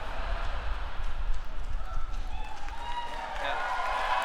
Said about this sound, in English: Yeah. Oh yeah, that's like 400 times more applause than it's ever gotten, and you don't even know which song it is.